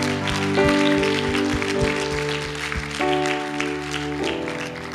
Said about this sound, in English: Can we celebrate in this place? Can we clap our hands? Thank you, Lord.